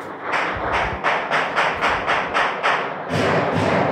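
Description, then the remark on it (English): A steady string of gunshots sounds from outside, about three per second, each a short dull bang over a constant background rumble, with no one speaking. “Hey, there's like a lot of gunfire happening right now.”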